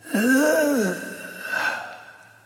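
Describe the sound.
A voice imitates a dying snake's last exhale: a drawn-out groaning breath that falls in pitch, then trails into a softer, airy hiss of breath.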